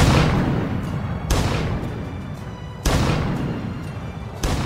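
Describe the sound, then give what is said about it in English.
Four heavy cannon-blast sound effects boom out at steady intervals about a second and a half apart, each a loud burst with a long rumbling tail that fades before the next shot. “I put in these cannon sounds because this is a big moment for everyone learning my opinion on Benjamin Franklin”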